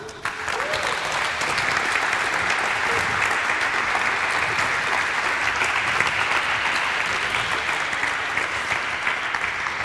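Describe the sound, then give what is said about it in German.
A large audience claps steadily for about ten seconds for a speaker finishing a talk, a dense, sustained wash of applause at fairly even loudness with no voices standing out. “Nee, ist ja gut, wenn du fertig bist, dann hol dir doch erstmal deinen Applaus ab.”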